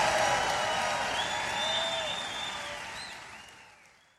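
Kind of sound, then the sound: crowd, crowd cheering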